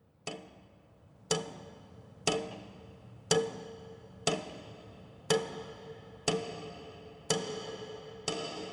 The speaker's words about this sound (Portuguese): Os dois caminharam em silêncio por um tempo, ouvindo apenas o som constante dos relógios. Tic, tac, tic, tac.